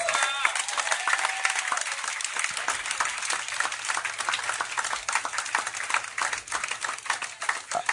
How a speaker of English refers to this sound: Clap for all the women in the house everywhere.